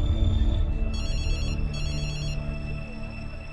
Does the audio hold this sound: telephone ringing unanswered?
yes